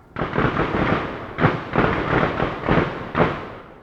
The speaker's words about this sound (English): The town feels calm and peaceful, at least until the gunfire starts.